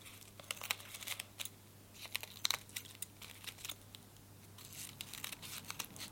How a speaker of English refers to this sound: Now we need to trim around the edges of it. So if you turn it round to the back so that you can see the black lines, it will be easier. And you just use your scissors to trim off all these little pieces that are sticking off.